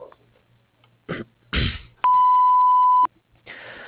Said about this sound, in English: If you would like to leave a message, please do so after the beep. Thank you.